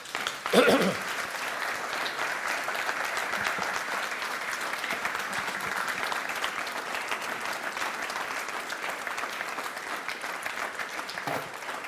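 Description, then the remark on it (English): Sustained audience applause after a talk, a dense steady patter of many hands clapping that holds at an even level for about twelve seconds after a brief louder burst at the start. “You can see by the kind of applause that you got that we thoroughly enjoyed it.”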